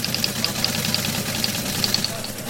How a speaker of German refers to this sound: Okay, das ist jetzt was ganz Spezielles. Das ist ein alter Fernschreiber aus dem Jahr 1965. Also im Prinzip eine mechanische Schreibmaschine mit Tastenfeld und Druckwerk, was aber nicht direkt gekoppelt ist